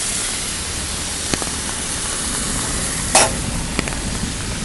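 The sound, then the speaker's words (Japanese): Mail is dropped into a wet postbox on a rainy day: a brief, soft papery rustle partway through, with a couple of faint clicks around it, all over a steady hiss of rain and no talking. “ちゃんとポストも音もしましたね。”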